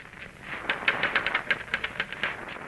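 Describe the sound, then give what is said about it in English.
Rapid, uneven clacking of typewriter keys, a quick run of sharp mechanical strikes at moderate volume with no voices, as someone types steadily. “Let me see that typewriter.”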